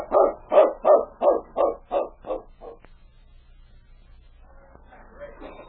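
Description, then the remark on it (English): A dog lets out a quick, steady run of about eight barks that grow fainter and trail off, leaving only a quiet, muffled background. “The great dog paused for a moment to pick up the sergeant's scent.”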